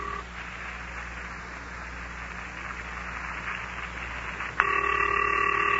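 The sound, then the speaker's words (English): A telephone line hums with steady hiss, then a continuous electronic ringing tone cuts in near the end and holds, like a call waiting to be picked up. No one speaks. “Come on, Hennessy Q. Or Isidore Z. Answer the phone.”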